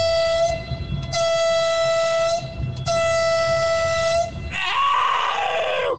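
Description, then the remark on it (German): A loud horn blares in three long sustained blasts with brief gaps, followed by a shifting, wavering horn tone at the end, prominent with no voices. “Ich kann hupen.”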